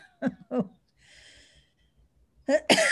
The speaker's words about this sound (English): Oops, I have to just mute myself a moment and cough.